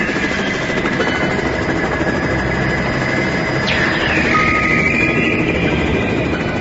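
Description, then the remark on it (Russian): A helicopter drones steadily and loudly throughout, a dense rotor-and-engine roar with a whining tone and a brief pitch sweep partway through, with no voices. “Потом вертолет летел дальше.”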